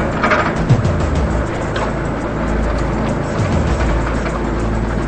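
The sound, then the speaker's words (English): An old blue car rolls slowly past a restaurant, its engine rumbling low and steady, a continuous droning hum with faint road noise and no voices. “The old blue car slowly passes the Ocean Inn restaurant.”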